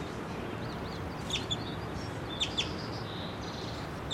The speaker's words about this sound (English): He's on the ground right now. I see him chittering. Let's see him getting a little closer. Pointing right at him.